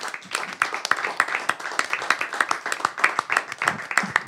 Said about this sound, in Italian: Grande applauso, dove sta? Sta andando via le altre persone. Un grande applauso per Diego Piemontese.